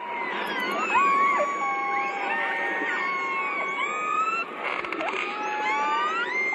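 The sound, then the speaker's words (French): Killer whale calls: a dense chorus of overlapping whistles and squealing pulsed calls that glide up and down in pitch, with brief buzzy click bursts, over a steady hiss and no talking. “Je vous propose d'en écouter des orques.”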